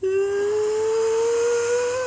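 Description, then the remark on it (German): A voice imitates a Boeing 777's jet engines spooling up from idle to takeoff thrust: a sustained, breathy whine lasting about two seconds, its pitch climbing slowly and steadily over a hissing rush of air. “Vor allem, die hat ein hervorragendes Geräusch, wenn die Triebwerke von Leerlauf auf Take-off-Schub, also auf Startschub, das macht so ein.”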